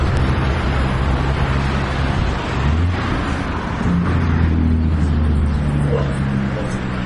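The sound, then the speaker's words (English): A dog barks and whimpers over a steady roar of car and road noise, the barking partly buried in the constant low rumble. “Uh-oh, barking dog, oh buddy.”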